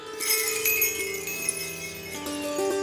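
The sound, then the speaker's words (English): Bells ring continuously in a shimmering, overlapping cascade of bright metallic tones, fairly loud and sustained throughout, drawing closer, with no one speaking. “There it was, the bells again, closer this time.”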